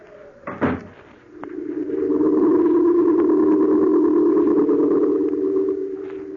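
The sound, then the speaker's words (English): A door shuts with a single solid thud near the start, then a steady low droning hum rises and continues to the end, with no voices. “I shut the door behind me, very casually, just as if I really were going to London.”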